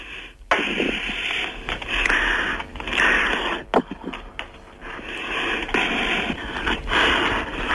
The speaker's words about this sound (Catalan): La senyora estava molt ficada amb el tema, respirava molt fort, no sé si de la concentració del moment o perquè fuma Ducados i fa ciclons de fundador, però respirava molt fort. Traiem la música, sisplau, que sentirem la respiració perquè val la pena.